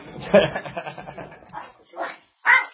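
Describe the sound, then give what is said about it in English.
A dog barks and yips in a quick, irregular string of sharp, fairly loud bursts, with two louder yelps standing out near the end. “That doesn't sound like a Labrador, does it?”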